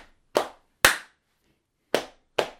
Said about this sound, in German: Wir kennen doch alle diese dynamischen Gruppendinge. Zum Beispiel zweimal klatschen auf den Oberschenkel, einmal in die Hand.